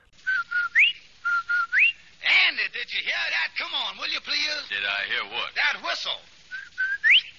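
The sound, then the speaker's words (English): A short whistled advertising jingle for Rinso White soap, steady notes ending in a rising swoop, repeats three times, then a stretch of talking voices, and the same whistled phrase returns at the end. “Rinso White whistle.”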